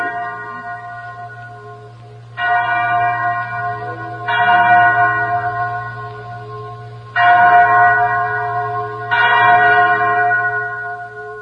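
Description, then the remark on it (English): A chapel bell rings out in loud, resonant strikes, four distinct tolls spaced a couple of seconds apart, each leaving a long humming decay that overlaps the next. “that's the chapel bell.”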